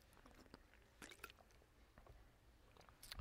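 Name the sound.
sipping water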